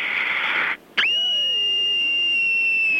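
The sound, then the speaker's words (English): An eight-year-old child screams in one long, piercing, high-pitched note held steadily for about two seconds, after a brief burst of harsh, breathy noise and a short pause. “I'm 8 years old, and here's my scream.”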